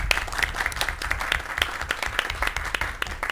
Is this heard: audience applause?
yes